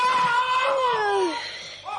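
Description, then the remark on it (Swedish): A man sitting at the kitchen table in the early morning lets out a loud, drawn-out scream of pain, his voice straining high and then sliding downward, followed by a brief second cry near the end. “Du är så glad så du skriker för att råtta är fast.”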